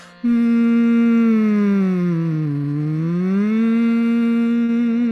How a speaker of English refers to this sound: So if you're ever feeling anxious or worked up, you can always breathe and hum. Do a 5-minute humming practice, and it'll bring you right back into your center.